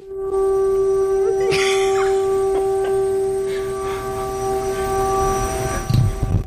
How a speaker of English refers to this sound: So that noise is a siren. Sounds like an air raid siren.